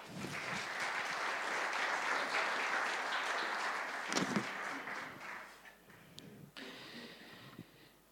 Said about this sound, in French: Merci beaucoup. On peut les applaudir.